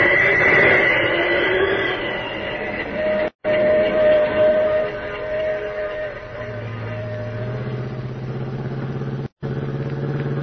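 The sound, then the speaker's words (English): The Pacific Flyer passenger train rolls along the rails about a mile beyond Carson City, a loud, steady rumble and clatter with a sustained whistle-like tone riding over it, briefly cutting out twice. “Pacific Flyer, all right. The only train they could be on.”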